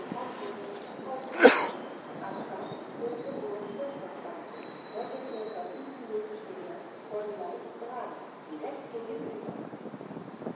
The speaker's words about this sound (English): Okay, I know that announcement was about my train. I didn't quite grasp it all.